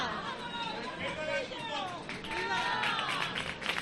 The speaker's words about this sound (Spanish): Se escuchan los aplausos, también es mucha la devoción de los jerezanos y de las jerezanas por María Santísima del Valle.